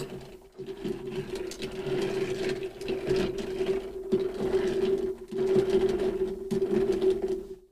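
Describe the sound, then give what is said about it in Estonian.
A drink in a big glass, topped up with homemade sparkling water, is quickly mixed by a steady motorized whir, a constant buzzing hum with a few brief dips, running for several seconds with no voices. “Ja kiire segamine.”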